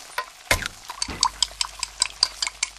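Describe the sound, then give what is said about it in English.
Quiet indoor kitchen sounds: a sharp clatter, then a steady run of light ticks and small clinks with a faint watery background and no voices. “Can you tell if the surfaces in this kitchen are crawling with bacteria that could cause chronic arthritis? Listen.”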